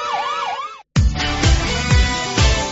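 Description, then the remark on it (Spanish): A loud emergency siren wails up and down in quick cycles, cuts off abruptly, then gives way to a series of rhythmic, booming pulses repeating about every half second. “Tu aportación silencia sirenas.”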